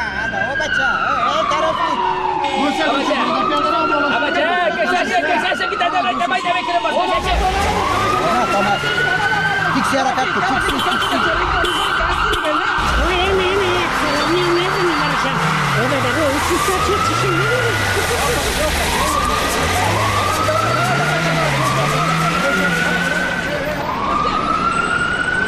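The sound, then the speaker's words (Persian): Several wailing sirens overlap as a convoy of cars with tinted windows and no number plates passes along a road, the rising and falling tones layered over steady engine and road noise for the whole stretch. “اونه چند تا موتر شیشه‌سی های بی‌نمبر پلیت از جاده رفت طرف ما میان و میخوان که طرف چرایی تیر شوند.”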